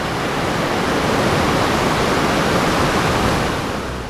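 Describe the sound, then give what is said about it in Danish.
A steady, loud roar of sea waves played through loudspeakers at the entrance of a maritime history exhibition fills the whole stretch, a dense continuous wash of surf without distinct breaks or surges, heard alone with no voices. “Gulvet bliver en maritim malstrøm, og bølgerne bruser ud af højtalerne.”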